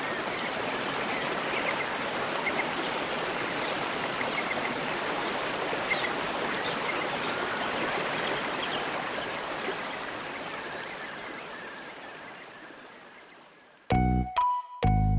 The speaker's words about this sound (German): In ihm strömt das Wasser aus der Oste ein und wieder hinaus.